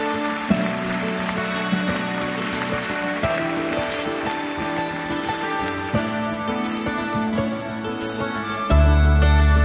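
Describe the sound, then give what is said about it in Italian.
Steady rain falls throughout, a continuous patter mixed with sustained musical tones; no one speaks, and a low, heavier note enters near the end. “magari sotto la stessa pioggia che ci accompagna oggi.”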